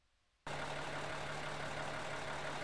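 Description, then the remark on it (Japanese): A KiHa 52 diesel railcar engine, an old-type diesel railcar, kicks in abruptly after a moment of near silence, then drones on loud and steady with a constant low hum and rough, rattling texture. “その旧型機動車の代表格でもあるキハ52のディーゼル音聞いてもらいましょう。”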